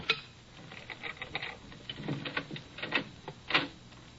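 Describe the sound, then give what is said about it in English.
A pane of glass being cut: a quiet run of irregular scratchy clicks and taps, with a sharper, brighter scrape near the end and no voices. “Cutting off a pane of glass.”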